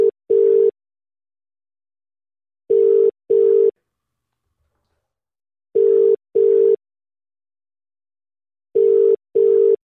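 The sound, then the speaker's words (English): A telephone line tone plays while a call is being placed to a member of the British public: four pairs of short, steady, mid-pitched beeps come at even intervals, separated by silence, with no voices. “Phone a member of the great British public and see what we should be debating now.”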